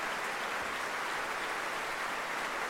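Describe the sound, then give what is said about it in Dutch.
Sustained audience applause for Alena Bajeva and the orchestra after a concert performance, a dense, steady wash of many hands clapping at an even level throughout, with no voices breaking through. “Veel applaus en het bijbehorende bloemetje voor Alena Bajeva.”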